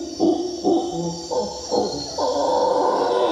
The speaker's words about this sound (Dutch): En we werden vrijwel iedere ochtend wakker door het geluid van aapjes. En dat waren trouwens howlermonkeys, dus dat is echt brullen. Wacht, ik ga ze even laten horen.